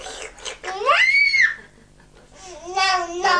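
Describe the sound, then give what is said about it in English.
A young child lets out a loud, rising scream lasting about a second, followed by higher-pitched wailing vocalizations near the end, with brief quieter gaps between outbursts. “No screaming, darling.”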